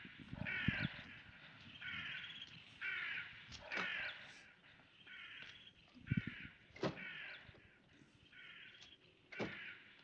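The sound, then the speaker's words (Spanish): A series of harsh, raspy crow caws repeats at a steady pace, roughly eight calls in ten seconds, with a few sharp knocks and thumps in between, as crows settle on a table. “Cuervos se ponen en la mesa.”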